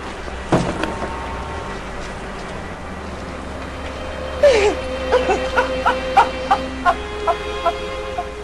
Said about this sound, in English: As she approaches her car, her face starts to contort. She unlocks the door, then breaks down in tears.